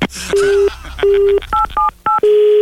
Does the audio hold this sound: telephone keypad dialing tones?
yes